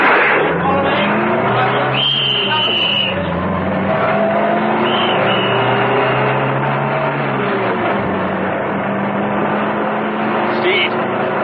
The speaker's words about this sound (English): ran towards the armored car. Steed started her up, and they roared off.